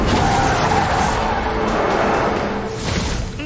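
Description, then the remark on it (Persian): A runaway car, its driver trapped inside, roars at high speed with sustained, screeching tire skids, loud, the engine and squeal filling the whole moment without any voices. “این یه فراره، راننده داخل ماشین گیر کرده”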